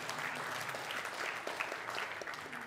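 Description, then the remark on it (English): A crowd claps steadily, dense overlapping hand claps forming a continuous, moderately loud patter with no voices rising above it. “You can clap to that.”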